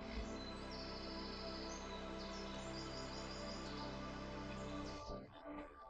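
bird, birdsong

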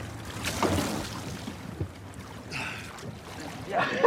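vehicle, boat passing

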